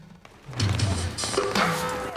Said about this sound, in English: She knocks over the bikes in the hall as she storms out.